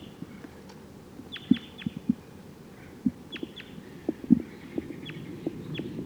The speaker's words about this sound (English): I think this is the same bird. Flew to a different perch. I still don't see the bird.